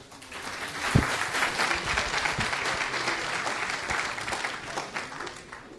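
An audience at a tech talk claps steadily for several seconds as two speakers on an open-source version of Tailscale are introduced, a dense, continuous patter of many hands at a fairly even loudness, with a couple of sharper individual claps standing out early on. No one speaks.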